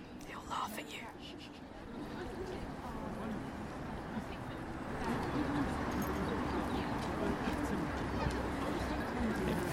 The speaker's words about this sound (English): Sounds like those birds are laughing. They are, they're laughing at you.